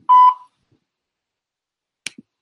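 A single clear, steady electronic beep, like a voicemail prompt tone, lasts under half a second, followed by silence and then a brief faint click.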